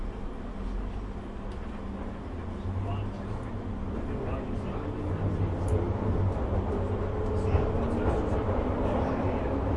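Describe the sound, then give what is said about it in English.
A London Underground Piccadilly line train bound for Cockfosters running between stations toward Holborn, its deep, steady rumble and rattling roar filling the whole stretch and swelling slightly louder toward the end, with muffled voices faintly underneath. “This is a Piccadilly line service to Cockfosters.”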